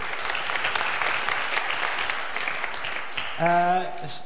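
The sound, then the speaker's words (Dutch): An audience applauds in a steady, dense wash of clapping that holds at an even loudness, and a voice begins speaking over it just before the end. “Dik applaus.”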